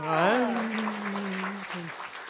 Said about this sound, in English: I have to admit, I look forward to hearing that round of applause. You know, it really makes me very warm, and, you know, it's very warm and welcoming.